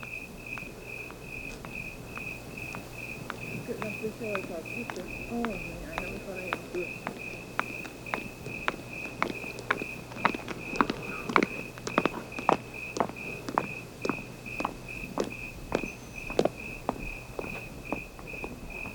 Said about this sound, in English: Listen to this section of tape made just at dawn. You'll hear the civilized sounds of a lady's high heels tapping their way down the walk as the eternal canyon crickets sound their quiet song to the morning sun.